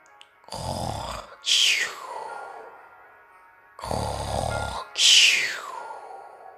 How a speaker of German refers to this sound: Oh nein, … schnarcht schon wieder.